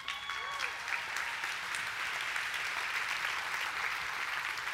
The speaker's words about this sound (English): We're going to clap like they just sank a dadgum putt.